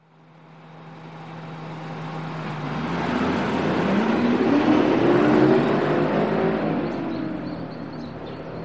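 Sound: bus driving away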